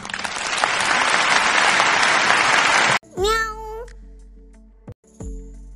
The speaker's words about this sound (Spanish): Cariño, esos aplausos son para ti.